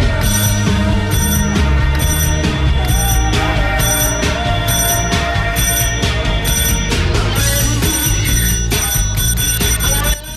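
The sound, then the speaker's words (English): A doorbell at the door of a flat is rung over and over by someone outside, insistent and loud, its bright repeated chimes layered over a dense wall of sustained tones that continues almost without a break until a brief drop at the end. “Outside, Marcus reaches for the bell again.”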